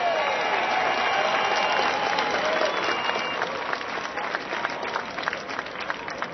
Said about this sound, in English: Let me recognize one of the Little Rock Nine. Ladies and gentlemen, please, Ernie Green, give him a round of applause.